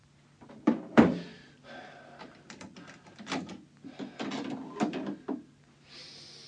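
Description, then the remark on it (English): The bolt of a shop's front door is worked by hand: a sharp metallic clunk, then a series of scraping, rattling slides and knocks, ending in a soft hiss. “I can't remember bolting the front door to the shop.”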